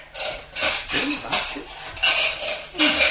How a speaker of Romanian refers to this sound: Cred că rostul meu e să spăl vasele.